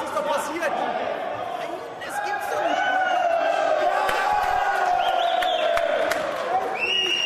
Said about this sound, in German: Es war der 5. Juni 2014. Die Händler auf dem Börsenparkett in Frankfurt jubeln, weil der DAX zum allerersten Mal über die Marke von 10.000 Punkten gesprungen ist.